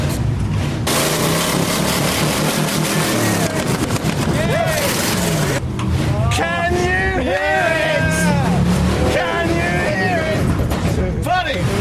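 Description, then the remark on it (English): A loud, steady monster truck engine rumble runs throughout, heavy, with revving swells, while several people talk and shout over it. “Oh, they got a monster truck over there.”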